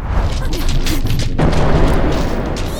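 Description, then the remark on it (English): A loud, rumbling explosion as the first cannon is destroyed in Adventures of the Starkeepers, with heavy low booms and crackling debris. A fresh blast surges in partway through, and the sound stays continuous for the whole stretch. “Looks like Glacia and Tank destroyed the first cannon.”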